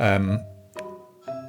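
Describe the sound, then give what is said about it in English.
A doorbell chimes, with three ringing tones struck in succession, each one sustaining and fading before the next. Moderately loud, with no talking over it. “Is that somebody's doorbell?”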